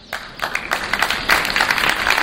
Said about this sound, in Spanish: Y ahora escuchan el silencio solo roto por el trinar de pájaros en la Plaza Mayor de Palencia y después un aplauso de homenaje.